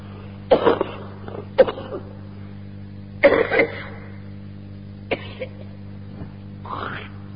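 Several separate, harsh coughs burst out at irregular intervals, a couple of them doubled, fairly loud over a steady low hum, with a rougher throat-clearing sound near the end.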